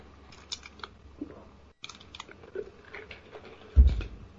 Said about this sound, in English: Excuse me, I must take a sip of water.